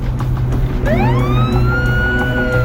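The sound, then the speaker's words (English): A police car's siren swoops upward and holds a loud, steady wail over a constant low rumble of engine and road noise as the car speeds up and passes another car, its blue and red lights flashing. “a cop car passes him going the opposite direction on the other side of a median”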